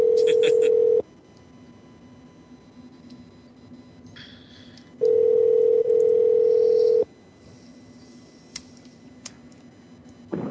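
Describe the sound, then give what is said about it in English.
Ringing heard over a phone line: a loud, steady electronic tone sounds briefly, falls silent for several seconds, then returns for about two seconds, with faint line hiss and small clicks in between. “I like the part where the phone rings.”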